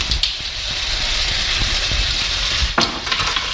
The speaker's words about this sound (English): Listen to that sizzle. It is really sizzling.